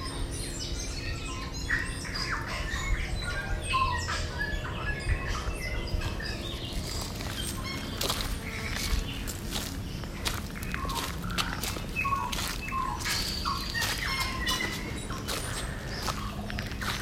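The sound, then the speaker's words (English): Many birds chirp and call continuously outdoors in Waikawa Park, Auckland, with bright tweets layered over a low ambient rumble and occasional footsteps. “The wagtail watching me, and lots of birds that I can't see.”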